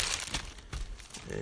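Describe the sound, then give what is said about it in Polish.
Plastic wrap crinkles and crackles in short irregular bursts, a brisk rustling with a faint low hum underneath, as the plastic film wrapping a faux-leather case for Audio-Technica headphones is handled during unboxing. “On był zapakowany w taką folię.”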